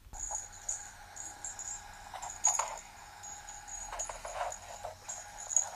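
A small bell on a collar jingles faintly in light, irregular shakes, with bright metallic tinkles clustering in brief bursts over a soft background hiss. No one speaks.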